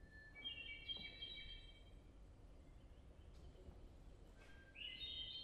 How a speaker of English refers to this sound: We take the hermit thrush, a little more complicated.